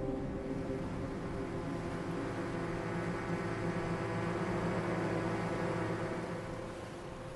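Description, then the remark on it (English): A drone buzzes overhead above the sea in a steady, unbroken motor whine with layered harmonic tones over a broad hiss, holding its pitch and loudness before easing slightly at the end. “It was a drone.”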